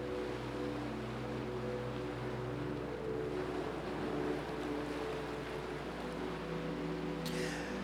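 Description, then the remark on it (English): Ocean surf roars in a steady, unbroken wash, with a low droning hum running underneath and no clear breaks between waves. No one speaks. “Though people that has done wrong to you, the anger, the hate, all that is being washed away with the ocean crashing in the background.”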